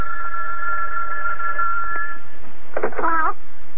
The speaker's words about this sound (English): Oh, telephone's ringing.